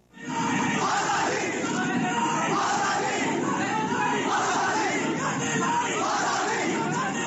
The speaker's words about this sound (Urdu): جب بھی ملک کے کسی حصے میں اس طرح کے نعرے گونجتے ہیں تو اس سوال پر بحث دوبارہ شروع ہو جاتی ہے کہ کیا ایسی سرگرمیوں کی اجازت دی جا سکتی ہے یا نہیں, اور یہ کہ یہ دیش سے غداری ہے یا صرف اختلاف رائے.